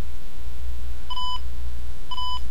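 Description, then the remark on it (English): Two short electronic beeps from an Olympus DS2 digital voice recorder during playback of a test recording, evenly spaced about a second apart, each a clear steady tone over a low hum of background noise, indicating the end of the file and the last file in the recorder. “And you heard the beeps to indicate that we were at the end of the file, and also that we were at the last file in the recorder.”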